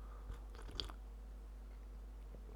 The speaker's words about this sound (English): Tonight's episode is brought to you by the beverage hot chocolate, which I am sipping out of a gigantic mug.